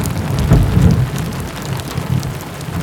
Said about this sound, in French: Ensemble, ils regardent la pluie marteler les vitres de la fenêtre.